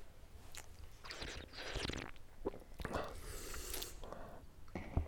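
Quiet slurping from a glass of bubbly water made with a home soda maker, a series of short wet sips and airy hisses spread over a few seconds, with no talking.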